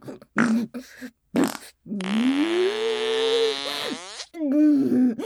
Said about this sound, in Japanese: おなら、あ、おなら。